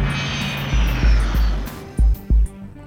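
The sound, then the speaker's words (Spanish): A Learjet 35 business jet, carrying up to 8 passengers, its engine roaring steadily and loudly, its high whine sliding downward as if passing by, with a few heavy low thumps near the end and no voices. “Un avión veloz de hasta 8 pasajeros, una aeronave bastante lujosa en aquellos años.”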